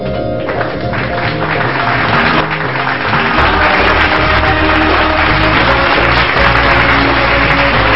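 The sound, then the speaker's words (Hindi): Loud, sustained audience applause welcoming a guest onto a show fills the whole clip, a dense steady wash of clapping over a bed of music with no one speaking. “जोरदार तालियों के साथ स्वागत कीजिएगा”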